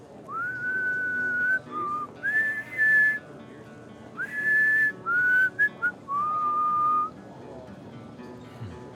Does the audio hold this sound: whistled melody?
yes